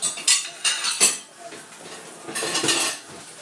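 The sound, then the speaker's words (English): Dishes and cutlery clatter and clink in a few sharp bursts, then a longer rattling stretch, as they shift around in a dishwasher. No one speaks. “The felt of my dress caught in the microwave. I mean, the dishwasher.”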